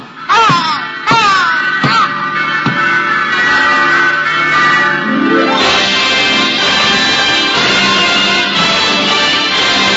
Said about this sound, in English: Sergeant, is that... Yes, Major. It's the church bells. Oh, no. No!